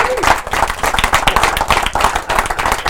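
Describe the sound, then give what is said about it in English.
A crowd under a tent breaks into sustained applause welcoming the speaker's wife to bring a word, dense overlapping claps at a steady loud level for the full stretch, with faint voices mixed in beneath the clapping. “Would you give her a hand?”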